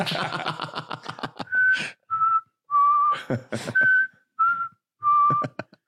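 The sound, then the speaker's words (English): Someone whistles a short, halting melody imitating a recorder: several sustained mid-pitched notes with gaps between them, framed by bursts of rapid clattering at the start and end. “The curtain just playing perfect recorder sounds.”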